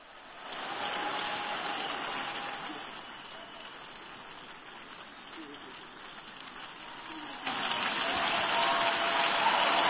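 A large church audience claps steadily for the Lord in a dense, continuous wash, with scattered voices shouting underneath; the applause grows louder toward the end.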